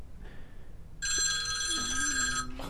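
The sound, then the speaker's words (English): Two phones ring, one with a bright, high electronic trill of stacked harmonic tones, loud and steady for about a second and a half, preceded by a fainter chime and overlapped by a lower tone. “Both of our phones.”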